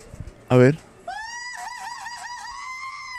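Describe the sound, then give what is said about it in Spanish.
A short, loud vocal burst, then a sustained chorus of high-pitched, wavering screams from several people that carries on steadily to the end at moderate volume. “Puse gente gritando y aquí hay un frío de gente gritando.”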